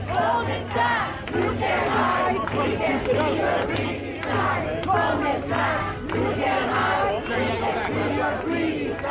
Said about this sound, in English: He's in front of Goldman Sachs with other protesters to let them know that they know what's going on inside the building.